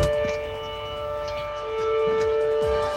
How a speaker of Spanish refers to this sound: Nuevamente se ha activado la sirena del cuerpo de bomberos de la comuna de Lonquimay, esto para solicitar el acuartelamiento general de bomberos para atender las múltiples emergencias que se han registrado en la comuna de Lonquimay